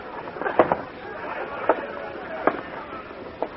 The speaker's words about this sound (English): It's 2 o'clock in the morning and the crowd's thicker than ever, Mr. Dillon. Come over here and take a look.